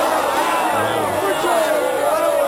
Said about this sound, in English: And a crowd.